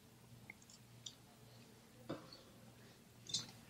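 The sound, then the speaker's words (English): A speaker pauses a Bible reading to take a quiet sip of water: a few small wet mouth clicks and a soft gulp over a low background hum, with no talking. “Reaching for water here.”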